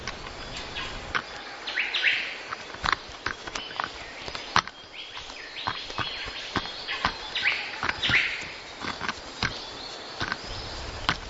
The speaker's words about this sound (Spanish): Extrae las larvas separando la corteza del tronco con su pico. Ajeno a todo, el joven pájaro sigue martilleando el tronco con entusiasmo. Escuchamos secuencialmente sonidos de picotazos.